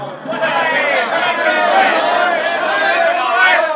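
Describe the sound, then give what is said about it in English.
A large crowd cheers and shouts continuously as the St. Louis Robin airplane lands after a record endurance flight in 1929, a dense, loud roar of many overlapping voices that holds steady for the whole stretch with no single speaker standing out. “At 38 minutes, 30 seconds past 7, the St. Louis Robin glides to earth in a perfect landing amid the roaring cheers of the crowd.”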